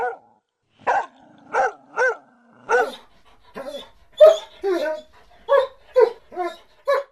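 A dog barks about a dozen times in quick, uneven bursts, loud, with a low growling whine between the early barks and yips mixed in toward the end.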